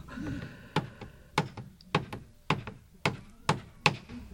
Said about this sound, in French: Et il y a les comédiens qui se préparent doucement. On en voit qui court d'un endroit à l'autre du radeau, qui tape au marteau, qui donne un coup de scie par-ci, par-là.